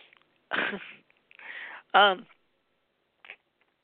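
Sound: sneeze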